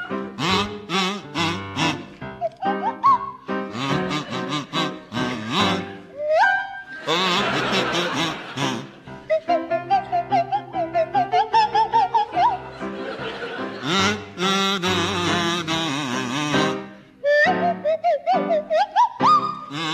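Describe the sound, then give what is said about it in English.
Tony Hawks on the kazoo and Tim Brooke-Taylor on the Swanee whistle play a tune together, sliding whistle glides weaving with buzzy, nasal kazoo notes, fairly loud, with bursts of audience laughter throughout. “the teams duet to meld the ethereal lilt of the Swanee whistle with the chirpy croak of the kazoo”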